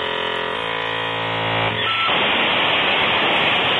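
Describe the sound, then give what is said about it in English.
A dial-up modem connecting to the internet over a phone line: steady electronic tones that step in pitch, then break into a loud, continuous hissing burst of static. No voices are heard. “That's what we used to have to do to get on the internet. That's called a dial-up modem.”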